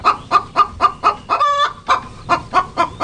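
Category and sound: bird, hen clucking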